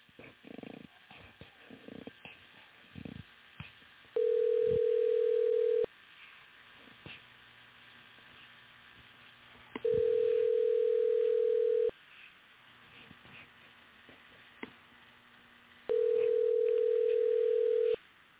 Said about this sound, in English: Oh, the call dropped. Let me try to call him again.